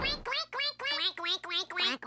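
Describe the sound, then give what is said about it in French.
Three ducks in a restaurant quack in a quick, steady run of about six or seven harsh, nasal calls, each one buzzy and rich in overtones, fairly loud with no talking over them. “Quoi, y a des canards dans le restaurant?”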